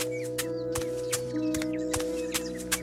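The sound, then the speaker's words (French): Small birds chirp in quick, scattered calls over a steady low hum, with sharp, regular clicking bursts cutting through. “Écoutons les oiseaux.”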